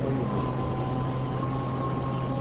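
An electric generator's engine runs without a break, a low constant hum with a faint higher whine on top, like a small generator idling. No one speaks.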